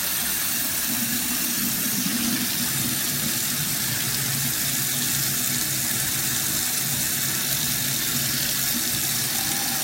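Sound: hot water running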